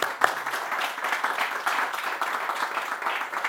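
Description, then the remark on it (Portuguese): A steady wash of audience applause at the close of a talk's question time, many hands clapping at once in a dense, continuous patter that holds at a fairly even loudness throughout, with one sharper clap standing out near the start. “Não, mas temos palmas.”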